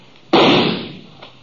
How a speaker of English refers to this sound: He was just a shadow partway up the canyon wall, maybe 30, 40 feet. His gunfire gave me a pretty good notion where to aim.